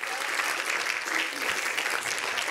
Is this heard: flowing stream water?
no